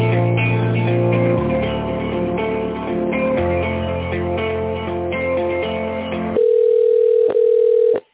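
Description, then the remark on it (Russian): Tinny, phone-filtered hold music plays for several seconds while a caller waits on the line after an automated prompt, then gives way to a steady, mid-pitched telephone line tone that hums on alone for about two seconds, broken by one brief click. “Если вы знаете внутренний номер абонента, наберите его в тоновом режиме или оставайтесь на линии.”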